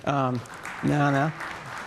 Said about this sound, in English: And in fact, I'm going to use the new SSH client that you may have heard we're going to be shipping with Windows. A little tiny clap for that. Appreciate that.